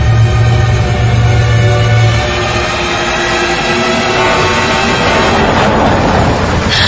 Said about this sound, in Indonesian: Sampai tiba-tiba aku mendengar suara mobil datang dan berhenti di depanku.